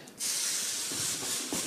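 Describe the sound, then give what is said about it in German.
A splash of white wine hits a very hot pan of caramelizing sugar to deglaze it and bursts into a loud, steady sizzle that hisses continuously for over a second, with no talking. “Und zum Schluss einfach einen Schuss Weißwein”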